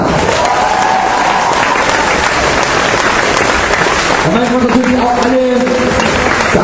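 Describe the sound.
A crowd applauds steadily with dense, continuous clapping and some cheering, while a voice calls out over the noise near the end.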